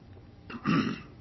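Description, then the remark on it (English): One short, gruff throat clearing, a quick rasping burst that swells and fades within half a second against a quiet background, with no talking, from a speaker who blames the tie he is wearing. “I don't know why I can't seem to clear my throat.”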